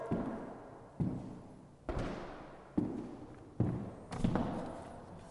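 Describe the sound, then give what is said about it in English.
Six or so slow, heavy footsteps walk from the door to the back wall of a very large wooden-floored room used as an echo chamber in a house, each thud followed by a long reverberant ring-out that fills the empty-sounding room. “That's from the door to the back wall.”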